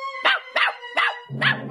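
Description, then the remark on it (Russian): A puppy yaps four times in quick succession at a cat sitting on a windowsill, high-pitched and fairly loud. The last bark comes with a rougher, lower undertone. “Залаял щенок.”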